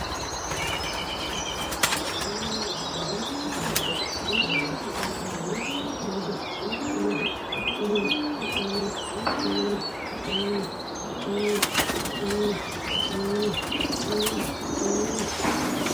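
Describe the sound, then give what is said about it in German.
Many pigeons coo steadily in overlapping rhythmic calls in a busy pigeon loft, with occasional sharp bursts of wing flapping and faint high chirps mixed in; no one speaks. “Weil ich muss meine Tauben alle sehen.”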